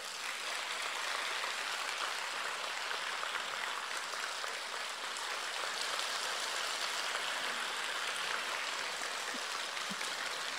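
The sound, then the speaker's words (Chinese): Sustained applause from a large audience, a dense, steady wash of clapping that stays loud and even for the full length with no voices over it. “好，根据你们的掌声，还得讲几个笑话。”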